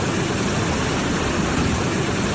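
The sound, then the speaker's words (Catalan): A loud, steady roar of rushing flood water from the swollen riera (stream) of Cadaqués, a dense churning wash of noise that holds constant throughout with no voices. “El so impactant de la riera de Cadaqués.”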